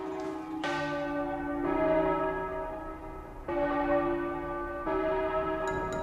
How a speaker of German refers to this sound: Aber auch während der gesamten Adventszeit gehört das Glockenläuten einfach zur festlichen Weihnachtsstimmung dazu. Vor allem, wenn am 24. Dezember die Glocken am Kirchturm die Festtage einläuten.